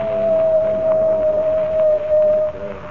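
coyote howling

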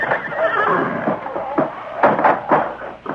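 horse neighing in stable

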